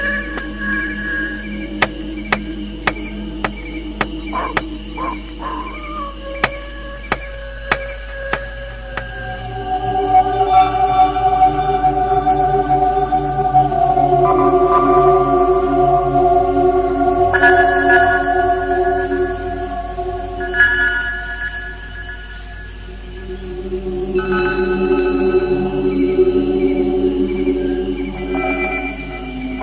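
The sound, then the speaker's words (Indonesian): Wolves howl in long, drawn-out overlapping tones, several voices layered and rising and falling almost without pause, fairly loud, with faint tapping early on and no talking. “Suara lolongan serigala itu tak henti-hentinya terdengar.”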